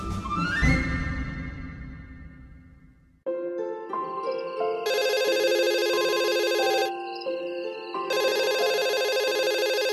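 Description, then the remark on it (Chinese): After a brief decaying chime, a telephone rings late at night with a loud electronic ringtone that repeats in sustained bursts, with no one speaking. “啊，这么晚了，还有谁会打电话来呀？ 不知道哎，我来接听吧。”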